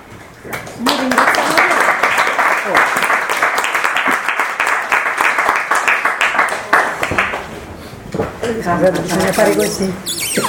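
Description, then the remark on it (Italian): A burst of steady, dense virtual applause in an online Zoom conference, many hands clapping in a continuous crackling wash for several seconds, then fading as a voice starts speaking. “Applausi virtuali.”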